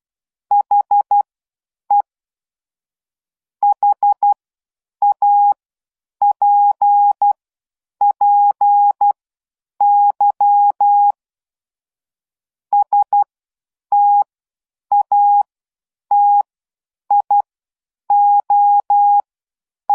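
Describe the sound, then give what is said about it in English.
A single steady-pitched beep keyed on and off in short and long bursts, a coded message tapped out in Morse code clearly and alone, with brief pauses between groups and no voices. “And there was the coded message.”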